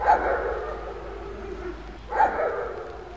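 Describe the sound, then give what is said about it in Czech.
Dogs bark in the town of Rokycany, two distinct barks about two seconds apart, each fading with a slight echo against a low background hum. “Štěkot psů se městem nese i dnes, ale to, že by šlo o zvuky nadpřirozených zjevení, jistě nehrozí.”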